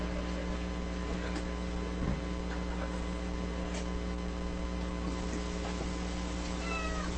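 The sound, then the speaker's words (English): A cat meows faintly a few times over a steady electrical hum, with no one speaking. “I was also laughing at even fat cats. They try to get themselves into weird places and squish themselves through things.”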